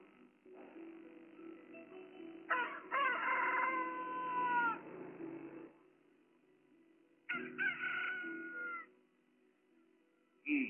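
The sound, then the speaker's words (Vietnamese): At midnight, at a closed frontier pass, a retainer of Mạnh Thường Quân imitates a rooster crowing so the guards will open the gate: two long, wavering crows a few seconds apart over a steady droning hum, followed by a brief sharp burst at the end. “Thuộc hạ có thể giả tiếng gà gái, hy vọng có thể giải quyết được việc này.”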